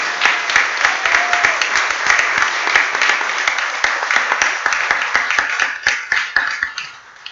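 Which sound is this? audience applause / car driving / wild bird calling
audience applause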